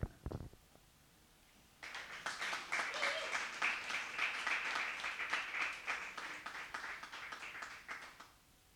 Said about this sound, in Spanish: Bueno, gracias por los aplausos, qué lindo.